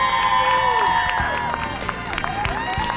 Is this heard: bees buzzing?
no